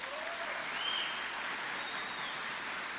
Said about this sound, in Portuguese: Pode sentar lá, obrigado. Uma salva de palmas aos dois.